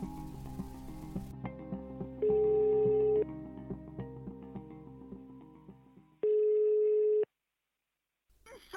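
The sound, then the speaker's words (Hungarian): Telephone line tones of an emergency call: two loud, steady mid-pitched beeps, each lasting about a second and spaced several seconds apart, with a faint muffled murmur between them before the line goes silent. “Hallgassunk bele a segélyhívásba.”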